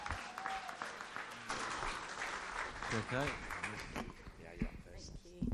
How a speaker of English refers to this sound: Maybe we'll clap while we wait for them to come.